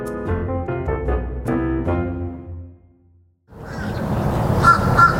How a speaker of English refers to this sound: Eventually, though, like a daily spring, the crows and grackles start to move north and inland, first to the trees along 29th Avenue, then on toward whatever else they plan to crap on today. A few crows remain.